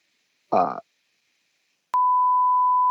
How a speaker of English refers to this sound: Beep it out.